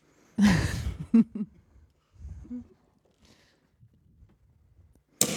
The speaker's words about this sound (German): Und jetzt habe ich auch gleich den Plop. Und jetzt bin ich mal gespannt, wie hoch der Korken knallt.